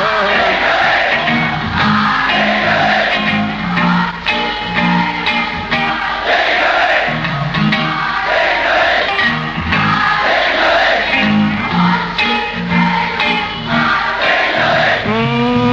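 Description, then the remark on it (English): A large crowd sings along in unison, loud and sustained for the whole stretch, many voices blending into a rising and falling melody with occasional louder shouted swells. “Your parliament out there singing?”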